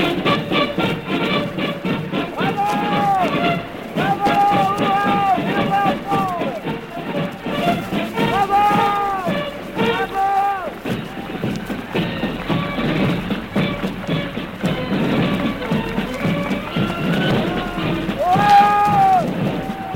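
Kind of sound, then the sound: crowd, huge crowd cheering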